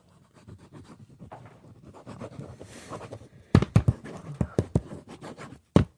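Scratching of a pen moving across paper as someone writes, soft and continuous at first, then a series of sharper, louder strokes and taps in quick, uneven succession.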